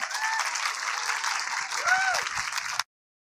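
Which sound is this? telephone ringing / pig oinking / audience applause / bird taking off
audience applause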